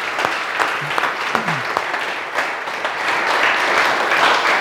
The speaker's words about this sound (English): And I don't know, I don't ever do this in the middle of a sermon, but can we just give God a hand clap of praise for what he's done? Like, come on.